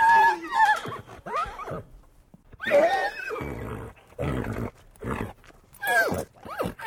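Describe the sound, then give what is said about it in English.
A stallion named Thunder, recorded for the film The Horse Whisperer, whinnies repeatedly, loud, with shrill quavering neighs broken by snorts and breathy grunts across several bursts, no talking. “I was hired to do horse recording for The Horse Whisperer.”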